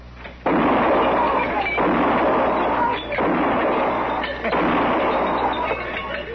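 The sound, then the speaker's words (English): Loud gunshots ring out about five times at a steady pace as a row of lined-up glasses in a saloon bar is shot at, each blast followed by a noisy crash and spray of breaking glass that fills the gaps between shots. “Pick off some of them glasses all lined up so nice and pretty.”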